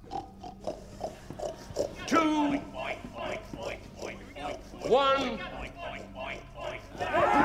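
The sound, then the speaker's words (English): A person imitates a pig during a game called Boar on the floor, letting out a series of loud, nasal snorting oinks in uneven bursts, with other voices chattering. “Oink for your sausages, Piggy. Oink, oink.”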